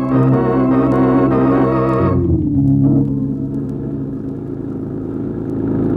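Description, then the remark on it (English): A loud car engine roars steadily as it drives along a highway, its pitch dropping abruptly partway through as if shifting gears, then settling into a lower continuous rumble. “Hit the highway. Maybe we can catch him.”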